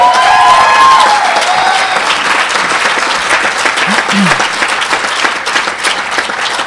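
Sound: audience applause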